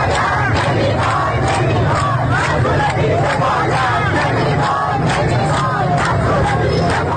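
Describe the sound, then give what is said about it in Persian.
A large crowd in the city of Sabzevar, northeast Iran, chants and shouts together in front of the governor's office in protest at repeated power and water cuts: a loud, dense roar, voices rising in rhythmic bursts with a steady low rumble underneath throughout. “صدای گروهی از مردم در شهر سبزوار در شمال شرق ایران که در اعتراض به قطع مکرر برق و آب مقابل فرمانداری این شهر تجمعی اعتراضی برگزار کردند.”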